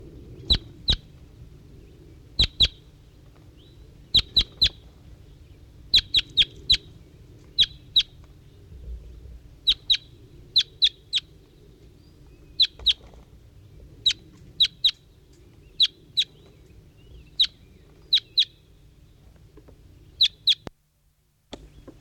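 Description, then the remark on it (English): A bird gives sharp, high chirps in quick pairs and triplets, repeating every second or two over a low, steady background hum, with no talking, responding to a wild bird in the distance. “Recording, here's 5-3 again. Responding, I think, to a wild bird in the distance.”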